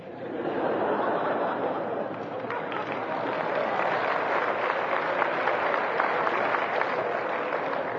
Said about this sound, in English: A lot of women were clapping. Less men. But that's an overstatement.